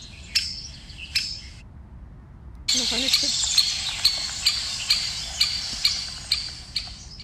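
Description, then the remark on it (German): A woodpecker gives a series of sharp, evenly spaced calls, loud, over a busy backdrop of chirping birds that swells after a brief quiet gap. “Nee, also es sind diese Spechte, also die immer an den Stamm Löcher reinmachen, ja.”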